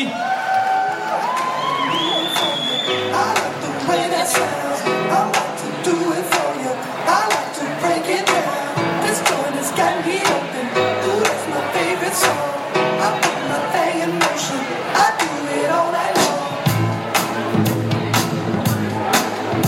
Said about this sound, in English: Thank you all. One more round of applause, everybody.